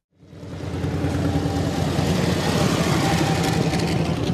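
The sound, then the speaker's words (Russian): A steady, throaty engine rumble fades in quickly and holds, a deep low growl of several Harley-Davidson motorcycles idling and rolling in one after another outside Tallinn, Estonia, arriving for an international motorcycle rally in early summer, with no voices. “С размеренным ворчанием моторов в окрестности Таллина стягиваются один за другим брутальные Харлеи.”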